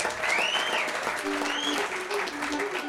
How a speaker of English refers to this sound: See, I thought you would have applauded a little longer than that.